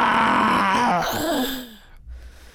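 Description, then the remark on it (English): A voice imitates the fierce roar of Lion, a story character: one loud, rough, drawn-out cry lasting under two seconds, its pitch sliding downward before trailing off into quiet. “Lion stopped right in front of them. He let out a fierce roar.”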